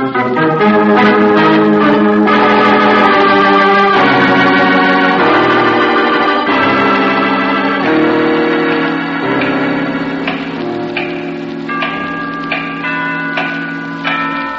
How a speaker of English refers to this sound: It strikes like that 5 minutes before the hour, before the biggest bell rings. The tower clock? Yes, I've heard them like that.